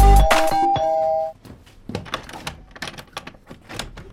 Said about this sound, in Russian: И вот уже в нашу дверь звонит милиция.